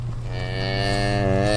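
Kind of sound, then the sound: animal, cow mooing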